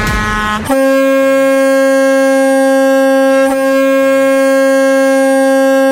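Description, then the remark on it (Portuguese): A loud, sustained truck air horn blares steadily for several seconds, its strong harmonic tone holding with a brief wobble midway, after a short burst of noise at the start. “ao top de três buzinaços.”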